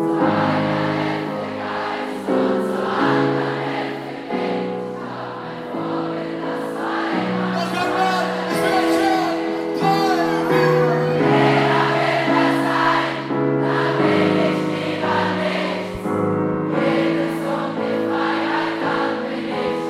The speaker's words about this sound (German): Und das Publikum hat natürlich auch immer mitgesungen.